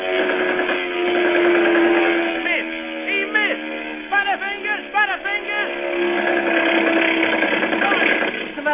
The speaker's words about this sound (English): Now the planes circle and come roaring in for the kill.